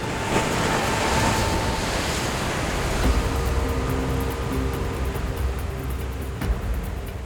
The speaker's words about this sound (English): Not long after, Captain Duddleston heard the horrific sound of a third wave as it crashed over the ship. The Waldo had been struck by one of Lake Superior's notorious rogue waves.